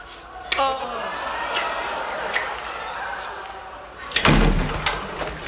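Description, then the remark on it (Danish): A door bursts open with a loud clatter near the end, after an earlier softer click, with no knock beforehand and faint voices in the room. “Hvorfor fanden banker du ikke på? Lås dog døren, det er et lukkum.”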